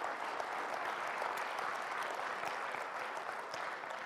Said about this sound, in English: Very kind of you to clap, but I am mismanaging our time, so I'm going to move us along.